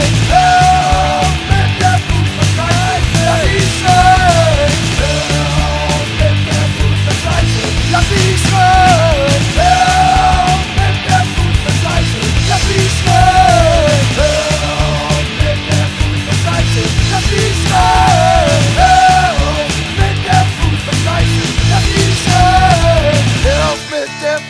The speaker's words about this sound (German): Lass sie doch ruhig schreien. Hör auf mit der Fußball-Scheiße.